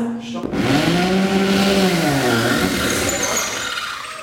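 A power drill whirs loudly, its motor whine climbing in pitch and then sagging as it bites into a wall, with a steady grinding roar running through the whole few seconds.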